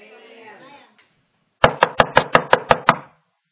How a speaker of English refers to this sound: He said, I stand at the door and I knock.